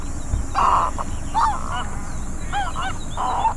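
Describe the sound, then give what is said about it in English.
A snowy egret gives four harsh, raspy croaking calls in uneven bursts while feeding, loud, over a steady low background rumble with no talking. “Now, I hear that when it comes to chirping or tweeting, snowy egrets are pretty silent birds, but they do make sounds when they're startled. Or if they're feeding.”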